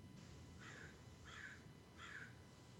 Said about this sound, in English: And the birds. Whew. I think the bird liked that one.